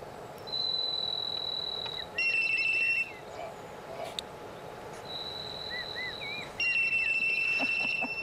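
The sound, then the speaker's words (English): A starling mimics a mobile phone, with a buzzy vibration followed by electronic ringtone notes: a steady high tone, then stacked chiming beeps and warbled whistles, the whole phrase repeated twice. “That, I believe, is a mobile phone. Yeah. And you know the bit at the beginning? That's the vibration.”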